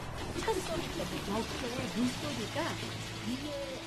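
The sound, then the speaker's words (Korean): A steady, forceful rush of a stream flowing beneath a road in Seochon, Seoul, running down from the Ilwangsan mountain valley, continuous, with faint voices murmuring over the watery hiss. “지금은 도로 밑으로 흐르는 탓에 보이지는 않지만 조금만 귀를 기울이면 이렇게 힘찬 물소리를 들을 수 있어요.”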